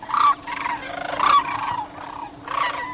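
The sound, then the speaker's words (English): Migrating sandhill cranes in spring at the DeSoto National Wildlife Refuge in the Missouri River Valley, Missouri, calling loudly and repeatedly, rolling bugling cries in three main bursts over a continuous chorus of more calls, with no one speaking. “The migrating sandhill cranes are beginning to appear at the DeSoto National Wildlife Refuge in Missouri, in the Missouri River Valley, straddling the Iowa-Nebraska border.”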